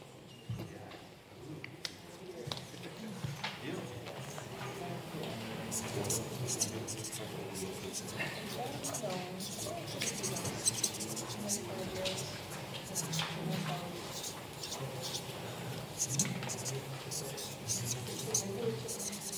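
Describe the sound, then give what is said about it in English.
Many pens scratch steadily across paper as a group of people each write down their biggest learning on a piece of paper, a dense, continuous layer of small scraping strokes, with a soft background murmur of indistinct voices throughout. “What did you learn in LGM 25? And write it on the piece of paper you are learning.”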